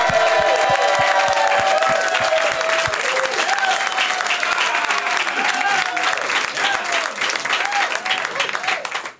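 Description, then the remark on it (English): A studio audience claps and cheers loudly and steadily for about nine seconds, dense applause with whoops and shouts rising above it, fading slightly near the end. “Hot crowd!”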